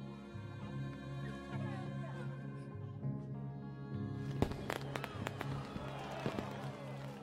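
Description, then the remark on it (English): Fireworks crack and pop in a loose scattered burst through the latter half, several sharp bangs over a steady low droning background, as Montrealers celebrate winter with skating parties and fireworks on the night of February 28th. “On the night of February 28th, while well-to-do Montrealers are celebrating winter with skating parties and fireworks, a young doctor named Thomas Roger is summoned by the Grand Trunk Railway to see a patient.”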